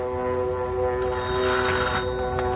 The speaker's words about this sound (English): Hey, that plane sure has got a funny-sounding motor. Never heard one like that before. I gotta report it fast.